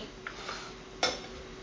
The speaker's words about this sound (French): Elle a commencé même à faire la vaisselle.